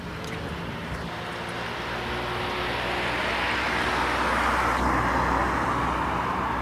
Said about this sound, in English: Midlife Beamer. Red BMW convertible.